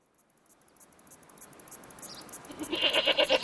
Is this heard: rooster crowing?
no